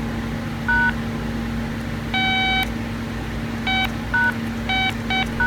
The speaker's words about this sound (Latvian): Tam nebija mūsdienu telefonos sastopamo daudzo funkciju, kameras, nebija iespējams kādam uzrakstīt, varēja vienkārši uzspiest telefona numuru un kādam piezvanīt.